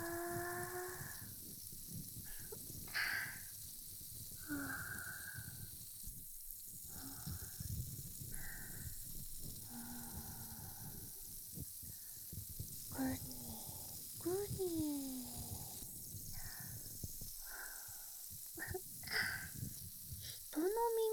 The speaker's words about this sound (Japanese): 泡が耳に入りそうでちょっと怖い？大丈夫大丈夫、私がコントロールするから。リラックスして、あわあわに耳を委ねてくれたらいいよ。シュワシュワ